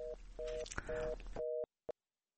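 telephone busy signal

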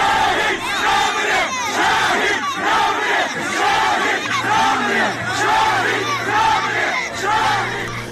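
crowd shouting slogans

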